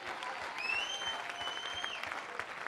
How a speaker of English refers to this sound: Oh, clap your hands unto him.